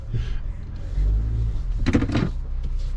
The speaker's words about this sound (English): So today's office is really cool because you and I are in the truck and we are negotiating a boulder field in Montana.